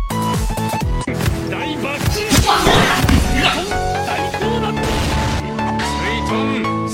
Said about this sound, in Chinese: 你把我棒棒糖打碎吧。